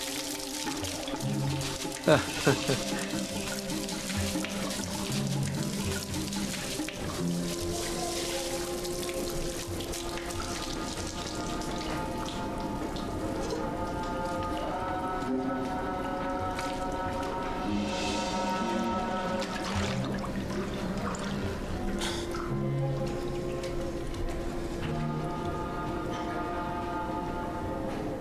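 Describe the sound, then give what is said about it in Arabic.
Dirty water from a water tank whose water had not been changed for six months gushes steadily out as the tank is emptied, a continuous splashing and pouring that lasts throughout, with people talking over the flow. “إنه يفرغ أوساخ الخزان جميعها هنا. أفرغه هنا.”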